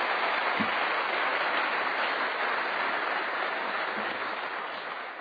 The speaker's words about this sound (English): Please give Judge Carpenter a big round of applause.